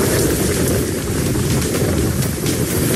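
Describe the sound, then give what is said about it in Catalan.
A steady, dense roar of heavy rain pours down without a break during a thunderstorm in Balaguer, in the Ponent region, loud, with a rumbling low-end wash like wind or thunder underneath. “Per exemple, així descarregava a Balaguer.”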